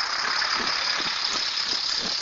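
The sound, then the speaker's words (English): A heavy recycling truck rumbles past with a steady high-pitched brake squeal over its engine noise and some rattling, with another truck behind it; no voices, loud and continuous throughout. “Got a garbage truck coming and another truck behind me. Actually recycle.”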